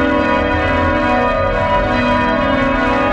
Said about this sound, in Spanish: Hoy es un programa especial y por ello hemos comenzado escuchando las campanas de un monasterio, en este caso de las monjas benedictinas, campanas que suenan así.